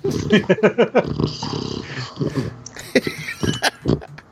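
dog growling

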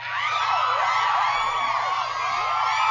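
girls screaming and cheering

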